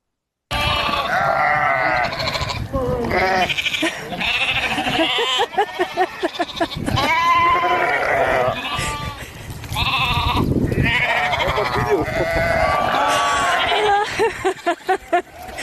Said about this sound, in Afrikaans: En hier voer die boer hierdie hongerskape met lucerne, maar kyk nou hoe gretig is daai skape.